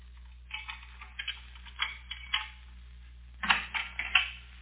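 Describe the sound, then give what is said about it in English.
Footsteps outside the house: a string of soft, irregular tapping steps, coming in small clusters over a low steady hum, with a brief pause before a last few louder steps. “I heard footsteps outside the house.”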